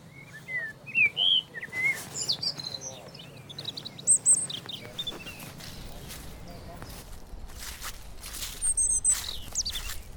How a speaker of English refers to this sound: You can also hear lots of birdsong. I'm not great at identifying birds, but hopefully you can hear some of them and identify them.